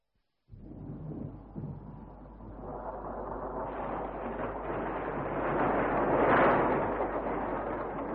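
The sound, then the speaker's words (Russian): A storm breaks over a tent camp, heard from inside a hut, with a sudden, deep rumble of thunder that rolls on without pause, swelling louder toward a peak before easing slightly. No voices are heard. “Слышите? Начался шторм.”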